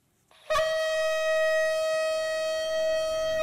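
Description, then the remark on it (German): A shofar, a ram's horn blown for the Jewish New Year, sounds one long, steady blast of about three seconds, a loud brassy tone rich in overtones that starts abruptly and holds its pitch without any talking over it. “zum jüdischen Neujahrsfest das Shofarhorn geblasen, ein uraltes Instrument, meistens aus dem Horn eines Widders gefertigt.”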